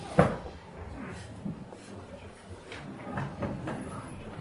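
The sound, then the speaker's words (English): A door thuds shut with a sharp knock, followed by a few softer clunks and rattles against a low rumbling background with faint murmuring voices. “Maybe we can close those two doors and we can come in.”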